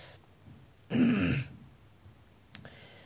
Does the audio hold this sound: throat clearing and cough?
yes